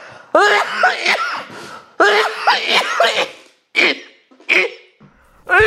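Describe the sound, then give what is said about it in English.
A harsh, loud coughing fit: two long, strained hacking bouts followed by several shorter, sharp coughs, with raspy, voiced strain between them. “That sounds like a pretty bad cough.”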